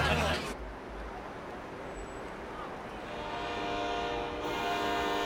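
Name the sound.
train arriving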